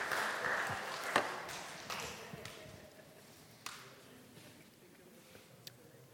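A brief round of light applause from an audience thanking a helper, strongest in the first two seconds, then thinning into a few scattered claps as it fades away. No one speaks.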